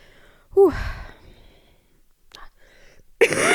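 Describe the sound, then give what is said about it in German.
A loud, rough cough with a strained, voiced edge, then a quiet pause and a second harsh cough that trails off at the end, from a person with a lingering cough. “Ach Mann, ich muss schon wieder husten.”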